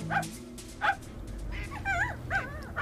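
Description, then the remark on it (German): A small dog, being walked by a woman by a lake, whimpers and yips in a series of short, high, wavering cries, several bursts spread across a few seconds, with a low rumble of background noise. “Dafür traf ich eine Frau, die ihren Köter spazieren führte.”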